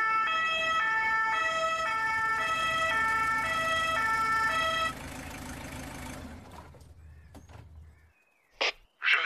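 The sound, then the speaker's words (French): A loud two-tone siren of an arriving SAMU emergency ambulance alternates steadily between high and low pitches over engine rumble, then cuts out, leaving a few brief scattered noises. “Le SAMU arrive, ça dure des heures, les parents devant le camion à attendre.”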